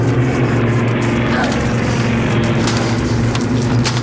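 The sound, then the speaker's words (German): A steady, loud engine drone of several American airplanes passing overhead above a city, a deep continuous hum with a throbbing propeller-like rumble that holds without break throughout. “aber glücklicherweise ist irgendwie gerade mehrere Flugzeuge.”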